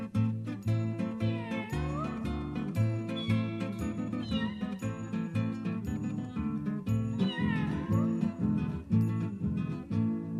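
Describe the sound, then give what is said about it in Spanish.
A small black cat meows several times in drawn-out, rising and falling cries, mixed with steady rhythmic music that plays throughout at a fairly even loudness. “Gatito, gatito, le digo si duerme y abre una rendija de sus ojos verdes.”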